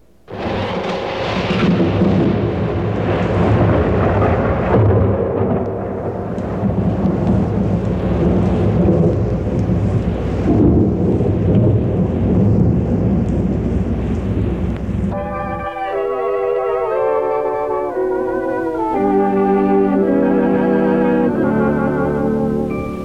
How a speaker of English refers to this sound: Spring. Look out, here comes a shower.